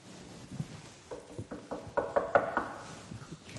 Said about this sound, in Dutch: Even aankloppen. De deur gaat open. Is dit het paleis van koning Herodes?